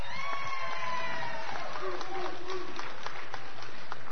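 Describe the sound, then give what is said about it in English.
An audience at a plaque presentation breaks into sustained applause for Texas, dense clapping that runs the full length, mixed with scattered cheers and high, wavering whoops over the top. “Let's hear it for Texas.”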